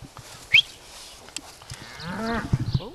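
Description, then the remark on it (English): A cow lets out a single drawn-out moo on a farm in the Midwestern United States with a red barn and cow pasture, rising out of a quiet farmyard backdrop with a few faint knocks and a brief sharp chirp just before it. “Red barn, 1,500 acres of corn and soybean row crops, 250 acres of cow pasture.”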